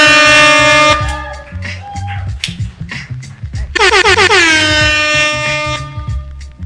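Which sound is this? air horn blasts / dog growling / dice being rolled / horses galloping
air horn blasts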